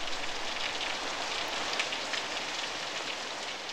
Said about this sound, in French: Il l'accompagna sous la pluie battante.